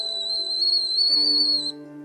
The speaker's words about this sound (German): als der Kessel anfängt zu pfeifen.